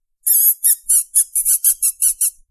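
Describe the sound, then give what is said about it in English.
A person makes a series of about nine rapid, high-pitched whistling squeals that sound like a mouse, used to call over an animal that does not respond to her name; loud and evenly spaced, with no talking. “She does not respond to her name, but will respond to me when I make a high-pitched, whistling, squealing noise when I try to call her over. This is the noise.”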